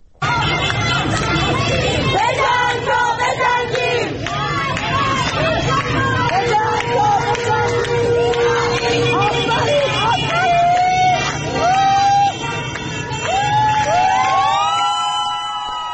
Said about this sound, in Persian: در بیرون از ایستگاه مترو شریعتی تهران هم معترضان بعد از ظهر امروز تجمع کردند، شعارهای مختلف دادند. بخشی از صدای اونها رو میتونیم الان بشنویم.